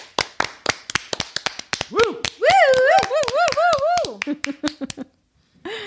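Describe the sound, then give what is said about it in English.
A steady run of sharp hand claps, over a dozen, applauding doctors, nurses and healthcare professionals, with a voice whooping and cheering in a wavering tone through the middle before the clapping tapers off. “You're getting the big clap.”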